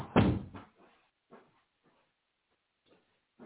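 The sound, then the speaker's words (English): A door shuts with a heavy, low thunk at the start as someone collects a food order from the door, followed by a few faint knocks and shuffling noises trailing off into quiet. “Ordered some food. I had to grab it from the door.”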